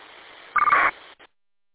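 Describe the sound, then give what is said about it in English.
A short, loud electronic data burst of buzzy tones over faint radio hiss, about a third of a second long, added by a BTEC UV Pro radio at the end of a transmission, followed by a brief fainter blip before the channel cuts to silence. “One of them is putting a data burst at the end of my transmission.”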